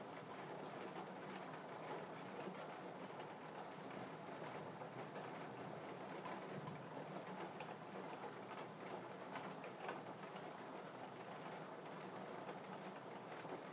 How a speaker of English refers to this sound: If it wasn't thundering out there, I'd be quite happy to go and stand outside in the rain. Quite a nice feeling standing in the middle of rain when it's really heavy. But at the moment, I won't be doing that.